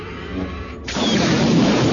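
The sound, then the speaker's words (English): A loud explosion bursts in after a brief low rumble, a dense, roaring blast that stays powerful through the rest of the moment, with no voices. “The explosion was sufficient to hurl Callista into the air.”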